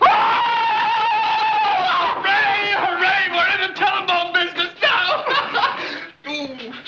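A man howls in pain over a burn on his leg, a loud, drawn-out wavering cry that breaks into choppy, sobbing bursts before trailing off near the end.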